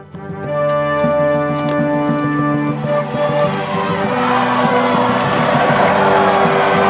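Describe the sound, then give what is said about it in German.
A crowd cheers and claps loudly and continuously as a king rides in through a castle gate, the roar swelling in the second half over steady held musical tones, with a hint of hooves as the rider enters. “Unter Jubel und Klatschen reitet der König zum Burgtor herein.”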